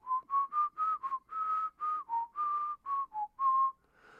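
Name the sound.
person whistling a tune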